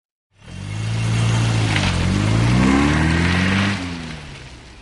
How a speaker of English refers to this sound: And I drove my car off the train and onto the road. A French road.